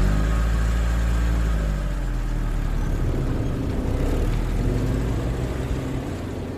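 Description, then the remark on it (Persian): A car engine hums steadily with a deep low rumble, shifting in tone after a couple of seconds as the car pulls away and keeps driving. No one speaks. “دوممون رو گذاشتیم رو کولمون و سوار ماشین شدیم و رفتیم.”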